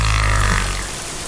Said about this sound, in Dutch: Ja, walvissen gebruiken zang om te communiceren.